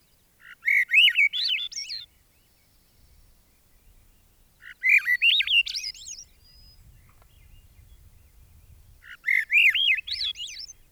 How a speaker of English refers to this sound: The song of the Swainson's thrush is smooth and fluty, rolling upward.